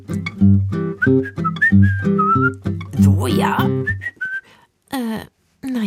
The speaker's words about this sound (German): Es war an einem regnerischen Sonntag und ich lief ein bisschen durch die Gegend und pfiff ein Liedchen vor mich hin.